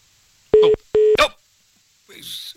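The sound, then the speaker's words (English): Two short phone keypad tones in quick succession, caused by a caller leaning on his phone, each a steady electronic beep layered with clicks and rustling, followed by a brief crackle of handling noise. “He's leant on his phone.”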